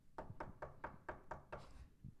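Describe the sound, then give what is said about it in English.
A rapid series of seven evenly spaced knocks on a door, sharp and steady in rhythm, then a brief quiet tail. No one speaks. “Who is it? Open this door.”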